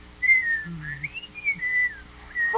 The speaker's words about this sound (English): Well, I suppose I could whistle.